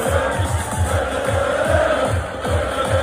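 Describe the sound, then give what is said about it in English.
A large crowd at a packed rave with DJs roars and cheers continuously, a dense wash of many voices with rhythmic rises and pulses, loud and sustained throughout; a Fox 4 van sits in the middle of the crowd. “The best part about that video is that the Fox 4 van is right in the middle of the crowd.”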